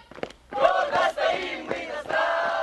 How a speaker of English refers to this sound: School children in fatigue sing a patriotic song during marching drills in the center of Suhumi.